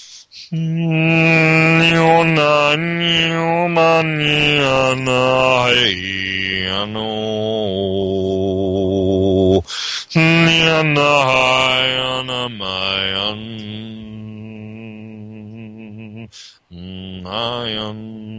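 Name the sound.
vocal toning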